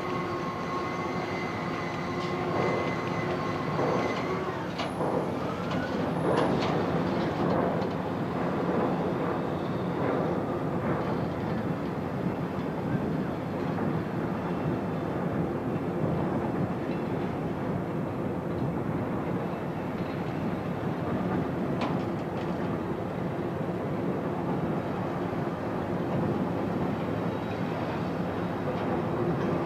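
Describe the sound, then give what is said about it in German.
A freight train rumbles steadily along the rails, a dense continuous roar with faint rhythmic clatter and occasional metallic squeals, sustained throughout, with no voices. “Diese großen Behälter, die man Container nennt, kann man vom Schiff auf die Eisenbahn umladen.”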